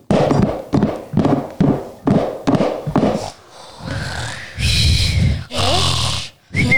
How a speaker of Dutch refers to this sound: Wat hoor ik? Nou, grootmoeder kan wel snurken, zeg.